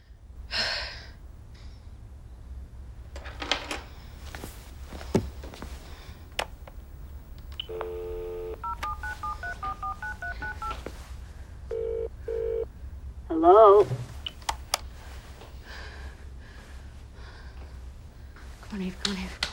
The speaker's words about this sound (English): She presses a button on her phone.